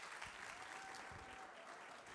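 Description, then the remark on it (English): An audience claps steadily to welcome a speaker being invited up, in a dense, sustained wash of applause, with a faint whistle-like tone rising briefly above the clapping. “And I just want to invite him up now and just let's just receive him with a round of applause and blessing for everything he's poured into our lives.”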